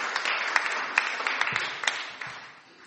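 A crowd applauds with a dense wash of overlapping claps, individual sharp hand claps popping out at irregular moments before the applause gradually thins and fades toward the end.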